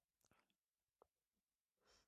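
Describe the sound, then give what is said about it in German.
Cardboard scraps are torn up in front of a microphone during a recording: a couple of quick scratchy tears, a small snap in the middle, then a longer rough rip at the end. No one speaks. “Aber warum reißt du jetzt Pappfitzel kaputt, während wir aufnehmen?”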